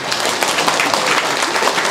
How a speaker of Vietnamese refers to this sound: Vỗ tay đi.